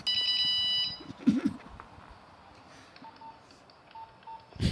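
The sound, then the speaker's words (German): A polyphonic mobile phone ringtone plays a loud, bright electronic chord-like burst for under a second, then cuts off into a noisy background with a few scattered knocks and faint beeps. “Oh, das war aber schon das Modernere, ne? Das Modernere, ja. Polyphon. Das ist schon Polyphon jetzt.”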